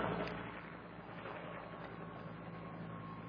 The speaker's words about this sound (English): Now, let me take a quick sip of water as our friendly helicopter passes by here to let the noise go.